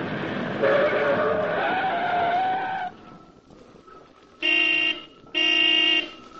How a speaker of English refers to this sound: Mr. Duncan, Commissioner of Public Buildings, brought his car to a stop before the contractor's temporary office, a small shack standing on the site of a large city construction job.